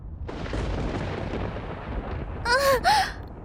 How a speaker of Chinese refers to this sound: 好可怕，好大声，好恐怖的闪电。